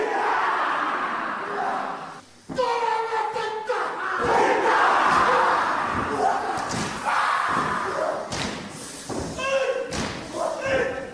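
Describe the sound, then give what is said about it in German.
A group of men perform a Maori haka war dance, chanting in loud, forceful unison, with sharp rhythmic shouts punctuated by heavy thuds of hands slapping rhythmically on their bodies and feet stamping on the ground, the chanting continuing throughout. “stampfen die Füße auf den Boden, strecken ihre Zungen weit heraus und klatschen ihre Hände rhythmisch auf den Körper.”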